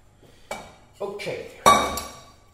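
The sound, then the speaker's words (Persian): A spoon stirs rice in a cooking pot, giving three distinct scrapes and clinks against the metal about half a second apart, each ringing briefly before fading. “همش میزنم آن.”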